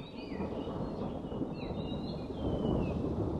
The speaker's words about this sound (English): It's raining this morning in the Himalayan foothills of Dharamshala, India.